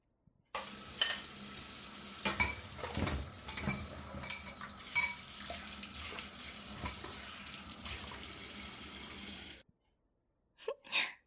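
A tap runs steadily for about nine seconds as someone washes the dishes after a meal, with dishes clinking and clattering under the water, then stops abruptly, followed by a brief faint shuffle at the end. No one speaks.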